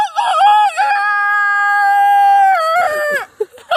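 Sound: person imitating a chicken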